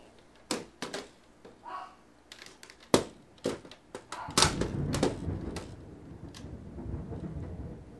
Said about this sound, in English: Thunder? Oh, the puppies don't like the thunder.